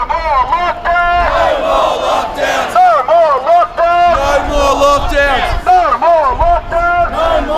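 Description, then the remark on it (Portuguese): A crowd of at least 1,000 protesters in Melbourne city centre on a Saturday chants against lockdown, shouting "We don't want more lockdown" in loud, rhythmic bursts, many voices rising and falling in unison with repeated shouted phrases over a constant roar. “Pelo menos 1.000 pessoas também se reuniram no centro da cidade de Melbourne neste sábado. Eles gritavam: "Não queremos mais confinamento."”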